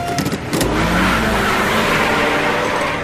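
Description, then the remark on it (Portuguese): A car engine revs hard and accelerates, a loud, dense roar that swells after a brief start and holds steady, with no voices over it. “Escolha seu carro, pise no acelerador e cuidado com a corredora de rosa, porque será dada largada para a nossa aventura.”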